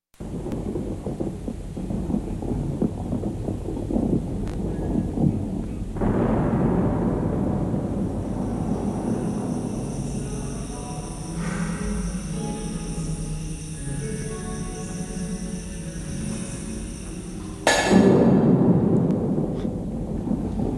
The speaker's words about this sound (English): Well, it's thunder and lightning.